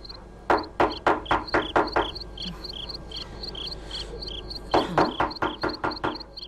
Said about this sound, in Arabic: سأطرق الباب.